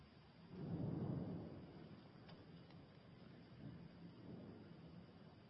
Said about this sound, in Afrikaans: Onse Vader wat in die hemel is, Here, wanneer ons hoor hoe dit daar buite reën